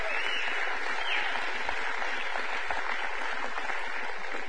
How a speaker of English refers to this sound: All right, guys, come on. Clap your hands for tithes and offerings, please.